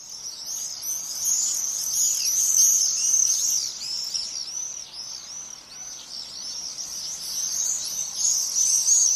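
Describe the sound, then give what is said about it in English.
Shrill, high-pitched bird screeches pour out continuously, many overlapping calls forming a dense, chattering chorus that seems to come from overhead, with no talking. “I love, when I can, hearing them just sort of screeching overhead”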